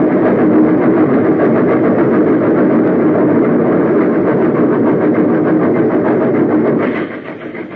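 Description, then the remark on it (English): A steam train roars along, a loud, dense rumble with a rapid chugging texture, before the sound suddenly drops and muffles near the end as it plunges into a smoke-filled tunnel. “He was still standing when the train plunged into the smoke-filled shaft.”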